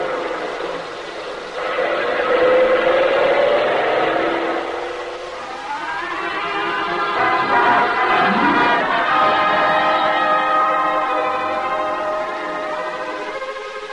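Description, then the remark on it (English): A truck engine roars steadily at speed, its droning harmonics climbing and shifting in pitch as it accelerates, loud and continuous for the whole stretch with no voices. “Thaddeus, start the truck.”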